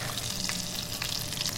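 batter sizzling

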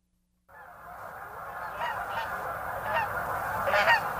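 geese honking

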